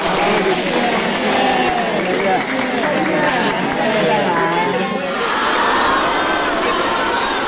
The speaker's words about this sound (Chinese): 图书馆大厅里掌声热烈，科研人员、在校师生高声向习近平主席问好。